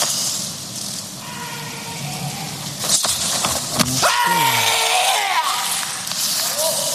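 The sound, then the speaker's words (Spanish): A sharp, forceful karate kiai shout rings out once midway, falling in pitch, just after a couple of thuds, over a steady roar of crowd noise; it is the final shout of a kata, given with a full spin and jump by a competitor seeking Olympic gold. “Ese giro completo con un salto y un kiai, su último grito.”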